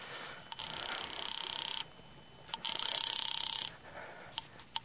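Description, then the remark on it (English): A telephone rings twice over a phone line as a call is placed from a phone booth in a drugstore, each long buzzing ring lasting about a second with a short pause between. It sounds thin and tinny, as if heard through the receiver, with no talking. “Instead, I went to the phone booth and called my sister Lil.”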